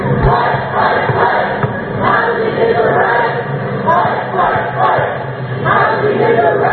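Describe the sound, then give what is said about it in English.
A large crowd of protest marchers on Pacific Avenue chants "Fight, fight, fight, housing is a right" together in a steady, repeating rhythm, their massed voices loud and continuous with a slightly muffled, outdoor quality throughout. “Of course, that's fight, fight, fight. Housing is a right.”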